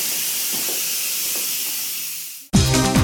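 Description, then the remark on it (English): A steady, loud hiss of steam escaping from an appliance, continuous for a few seconds before cutting off abruptly as music begins. “So this is the steam coming out.”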